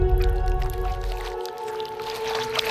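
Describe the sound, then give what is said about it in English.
Wet sloshing and squishing as a person climbs out of water, followed by scattered drips over a steady mechanical hum. No one speaks. “let me help you out of the water.”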